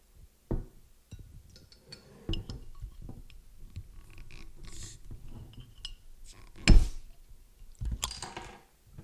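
Cali Creamin' Vanilla Cream Ale by Mother Earth Brewing Company is poured into glasses for a sample, with a soft splashing pour broken up by sharp clinks and knocks of glass and bottle over several seconds. No one speaks.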